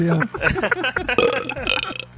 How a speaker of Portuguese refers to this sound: É que eu tava aqui, eu tava engolindo ar aqui o tempo todo até vocês me chamarem pra ver se saiu um arroto maior.